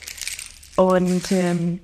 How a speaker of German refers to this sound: Diese hier heißen Pala Chimes. Die gibt's auch mit unterschiedlichen Samenarten. Die hören sich dann ein bisschen unterschiedlich an, ja. Aber auch sehr, sehr schön und auch sehr, sehr entspannend und beruhigend, finde ich, dieser Sound.